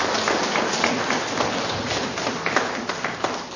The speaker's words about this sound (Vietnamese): Chúng ta cảm ơn Chúa, cảm ơn Đức Mẹ. Xin dâng lên Chúa là mẹ một tràng pháo tay.